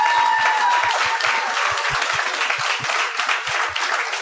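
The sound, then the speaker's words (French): A crowd applauds loudly and steadily for several seconds for the guests Mélanie Couture and Eddie King, a dense wash of many hands clapping at once, with a few faint whistles or cheers rising above it. “J'aimerais ça qu'on leur donne une bonne main d'applaudissements.”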